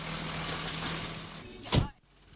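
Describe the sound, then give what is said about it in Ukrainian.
A garbage truck's engine rumbles steadily with broad mechanical noise as it unloads trash onto a huge, smoky garbage pile, then a loud whooshing burst like an air brake or hydraulic release rises and cuts off, leaving a quieter hum. “От ви чуєте, як вигружається сміття зараз?”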